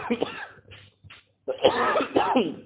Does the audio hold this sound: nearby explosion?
no